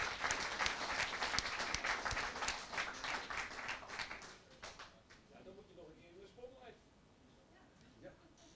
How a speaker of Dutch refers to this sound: Een heel groot applaus alsjeblieft. Kom maar naar voren.